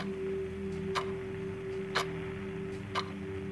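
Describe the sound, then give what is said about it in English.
A clock ticks steadily, one sharp tick each second with fainter echoes between, over a low constant hum. No one speaks. “Listen to the sound of the clock as it makes you more and more relaxed.”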